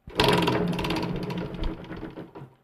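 A prize wheel spins with a rapid ratcheting run of clicks that starts fast and loud, then gradually slows and thins out as the wheel winds down.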